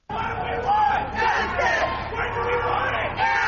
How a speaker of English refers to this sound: They yelled slogans and held signs while marching from the Beltline to the new courthouse downtown in the second annual Walk for Justice for Murder Victims.